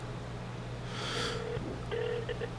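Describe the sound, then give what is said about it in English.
Steady electronic phone tones sound in two short bursts, the second broken into quick pulses, fairly quiet over a low constant hum with a brief hiss before them; no one speaks. “Okay, let me try calling.”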